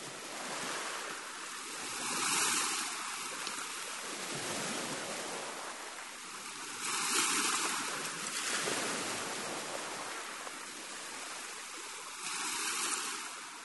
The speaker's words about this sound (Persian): این آوای طبیعت. این آوای دریا.